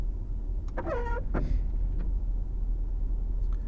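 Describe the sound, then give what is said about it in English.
Windshield wipers squeak twice in quick succession, a shrill, rubbery whine over the steady low rumble of a car's interior while driving in rush-hour traffic at 8 o'clock in the morning, followed by a few faint clicks. “Those are the windshield wipers making that horrible noise, if you're wondering what that squeaking is.”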